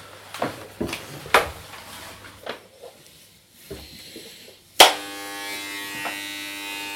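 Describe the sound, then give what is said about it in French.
Electric hair clippers, about to shave a head, switch on with a sharp click and settle into a steady, loud buzzing hum, preceded by a few soft clicks and rustling handling noises. “Where is the tondeuse?”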